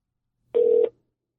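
A single short electronic touch-tone dialing beep of a phone call sounds clearly and steadily for about a third of a second before cutting off, with silence on either side.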